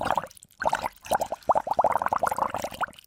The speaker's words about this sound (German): Dieses Blubbern, das denken wir ja schon, oder? Ja, wenn da Gas rauskommt, dann muss es doch blubbern, also, denke ich. Vielleicht lassen wir das mal überprüfen. Lisa Clemens, stimmt es mit dem Blubbern? Klingt ein Walpups so?